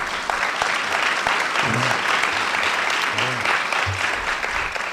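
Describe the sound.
An audience applauds steadily, a dense wash of many hands clapping at an even, fairly loud level for the whole stretch, with a few faint voices mixed underneath.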